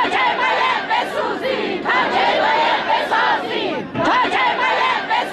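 A large crowd of hundreds of Isfahan farmers shouts and chants together in loud, sustained bursts, many voices blending into a rough roar with brief dips between phrases. They are protesting over their water rights on Wednesday, in front of the Khaju Bridge in the dry bed of the Zayandeh Rud.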